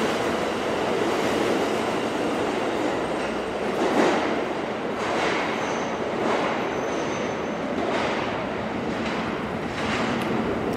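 A New York subway train in a station rumbles loudly and steadily on an August day, its broad roar punctuated by rhythmic clattering bursts every second or so, with no voices over it.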